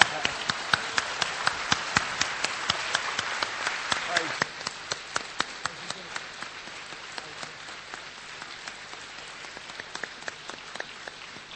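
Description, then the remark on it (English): A crowd claps to Jesus, the applause dense and full for the first few seconds, then thinning into scattered, sharper individual claps with a steady near-rhythmic pattern, moderately loud and without voices. “Let's clap to Jesus.”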